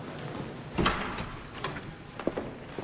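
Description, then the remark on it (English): Heavy wooden doors are opened by uniformed guards with a solid clunk and a few softer knocks and rattles, against a steady low hum. “Uniformed guards open wooden doors, allowing Ryan, Cabot, and two other people entry to a busy glass-walled room beyond.”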